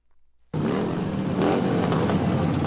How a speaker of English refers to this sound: Motorcyclists are clogging the streets of Washington, D.C. in the annual Memorial Day Rolling Thunder demonstration aimed at honoring fallen service members.